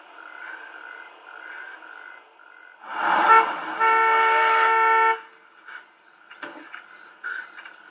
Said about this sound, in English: A car pulls up.